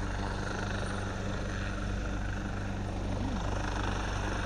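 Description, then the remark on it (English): A helicopter hovers over a lake, churning up the water as it comes round to pick up people from the lake; its steady rotor thrum and broad engine roar fill the air loudly and continuously with no other voices. “The helicopter's coming round, picking them up.”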